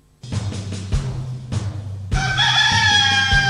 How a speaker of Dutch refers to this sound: De haan.